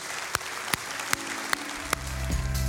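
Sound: audience applause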